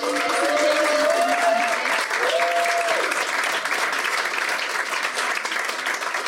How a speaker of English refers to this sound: So that is it for the performers tonight. Can I get a big round of applause for everyone?